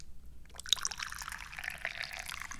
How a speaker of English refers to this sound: The first thing we need to do is pour some tea.